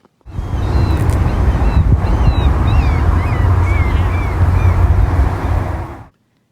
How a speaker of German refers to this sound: Möwen. Ja, gut, ich gebe zu, das könnte jetzt auch wirklich in jeder Stadt oder Hafenstadt sein.